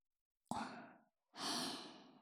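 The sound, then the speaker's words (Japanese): Two soft, breathy blows of warm breath into the ear before ear cleaning, the first short with a sharp onset, the second longer and fuller, fading out gently, with no talking. “じゃあ、最初は耳かきをしやすいようにあったかい吐息でふうふうしちゃいますね。”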